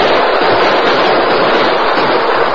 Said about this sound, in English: With a final burst of gunfire and with ear-splitting whoops, they fled over the prairie toward the shoulder of a wooded hill beyond.